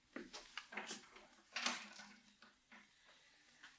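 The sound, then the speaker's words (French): A door to a father's bedroom is opened: a series of soft clicks and knocks from the latch and handle, a louder rattling burst midway, then quieter scrapes and bumps, with no talking. “Cette porte.”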